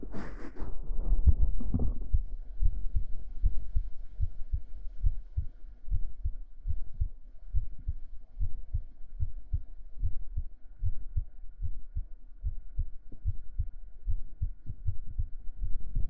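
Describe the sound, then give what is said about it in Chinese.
A steady, muffled heartbeat thumps in a regular rhythm, low as if heard through a stethoscope, after a brief rustling bump at the start. No one speaks. “这样吸尘听心跳会让你放松下来吗？”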